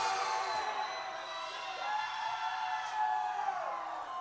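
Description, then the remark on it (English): A large crowd at a band's live show, recorded for a live album, screams and cheers continuously, a dense, bright roar of many voices with shrill whoops rising and falling, holding at a steady loud level throughout. “Since this is a live album, I want you to fucking scream as loud as you can and put your voice on there.”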